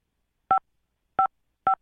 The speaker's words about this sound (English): I'm hitting five on the phone.